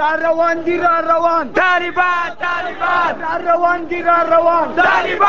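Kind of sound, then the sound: crowd, crowd chanting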